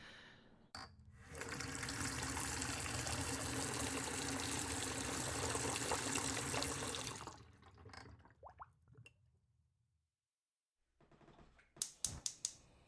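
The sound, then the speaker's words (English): A steady rush of tap water pours into an electric kettle for making tea for about six seconds, then stops with a few light clinks. After a brief silence, a couple of sharp plastic clicks follow as the kettle's switch is flipped on. “I think I need to turn on the kettle first.”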